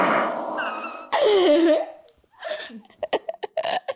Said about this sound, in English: Okay, Google, make a fart noise. This is a fart.